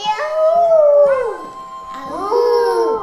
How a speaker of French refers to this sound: On essaye un autre bruit? C'est un chien. C'est un chien? Qu'est-ce que ça? C'est un loup.